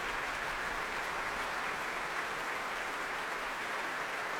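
Sustained applause from a large audience at the Royal Albert Hall after a duet performance, a dense, steady wash of clapping with cheering mixed in, continuous and even in loudness throughout.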